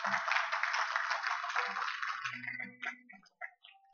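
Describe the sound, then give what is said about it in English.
An audience claps together, giving the Lord a hand clap of praise, in a dense, steady burst of applause that fades after about two seconds, leaving a few scattered claps and a low murmur of voices. “One more time, give the Lord a hand clap of praise.”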